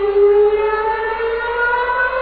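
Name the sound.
alarm siren sound effect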